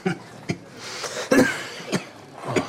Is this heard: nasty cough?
yes